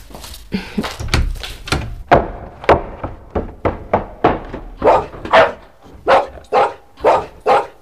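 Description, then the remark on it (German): A dog, Timmy, barks loudly and relentlessly inside a house, about twenty sharp barks in a row, rapid at first and then settling into a steadier, evenly spaced rhythm, with no one speaking. “Ruf sofort einen grässlichen Hund zurück.”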